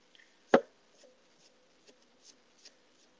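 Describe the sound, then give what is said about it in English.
A sharp knife chops food on a cutting board: one sharp knock, then a few faint, irregular taps and light scrapes. “Can you hear the chopping sounds?”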